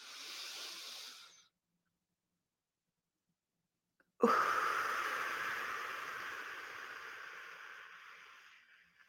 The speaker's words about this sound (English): Breathing down into the diaphragm, allowing the belly to expand, holding it. And letting it out. So when you're breathing, your shoulders should not be going up. They should be staying down in place.